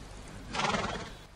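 A horse lets out a short, loud whinny that swells up in the middle and fades, with soft hooves clip-clopping underneath. No one speaks.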